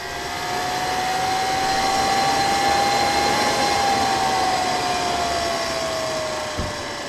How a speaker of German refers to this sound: Mit dem Staubsauger hat diese Maschine nur eines gemeinsam. Beide laufen mit einem Elektromotor. Es ist der erste im Kreis Mährisch zugelassene PKW, der ausschließlich mit Strom läuft.